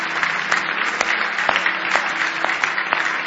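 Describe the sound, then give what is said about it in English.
A church audience claps their hands in praise to the Lord in steady, sustained applause, many hands overlapping into a dense, lively roar with occasional sharper claps standing out, loud throughout. “Give him one more big hand clap of praise if you love him tonight.”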